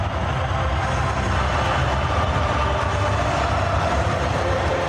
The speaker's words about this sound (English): Some nice crowd noise there. That's what you call laying out, and you let the crowd noise take over.